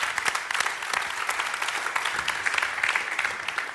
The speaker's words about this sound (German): Er ist aufgegangen und ist jetzt einer der besten Torleute in der Junior League in Schweden und sind voll begeistert von ihm. Ich habe kurz, ja, das ist ein Applaus wert.